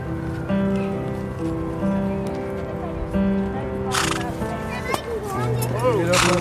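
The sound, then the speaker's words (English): Horses whinny and snort as a group of boys ride them on a large green at the back of a housing estate in November sun, the boys' voices calling and chattering over them, with a sharp burst of neighing near the end. “A group of boys on horses.”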